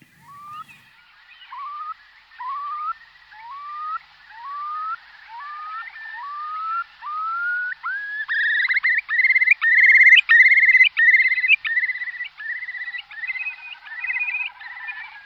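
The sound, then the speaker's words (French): A Eurasian curlew calls alone, starting with a series of loud, rising whistled notes that speed up and swell into a rapid, bubbling trill before trailing off. “Alors, tout à coup, il s'agite, là, c'est le courlis cendré.”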